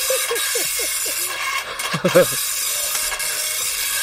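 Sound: slow printer printing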